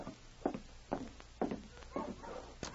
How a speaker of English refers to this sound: Hey, listen. Dogs. Yes. Wonder who it can be. I'll take a look.